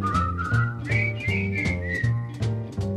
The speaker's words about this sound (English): We hand out wiener whistles, which is a little takeaway. It's a whistle in the shape of the Wienermobile, and it's been around for years and years and years. Some people have wiener whistles dating back to the 50s and 60s.